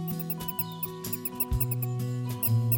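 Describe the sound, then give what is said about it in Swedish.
Three small white dancing mice performing outside the city zoo squeak in quick, high-pitched bursts, repeating steadily over sustained low musical tones that shift pitch every half second or so; no one speaks. “och snart fick han syn på 3 dansmöss som hade uppvisning utanför stadens zoo.”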